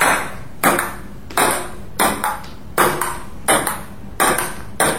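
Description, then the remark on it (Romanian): A table tennis ball is served and then hit back and forth in a quick rally: about nine sharp, bright clacks at a steady, roughly even pace, with no voices. “Dă-mi și mingea. Servește tu.”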